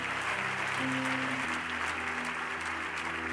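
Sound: audience applauding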